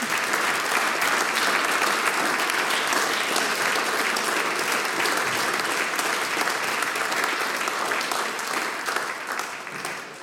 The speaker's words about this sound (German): Ich danke dir. Wir schicken dich mit einem großen Applaus wieder auf deinen Platz zurück.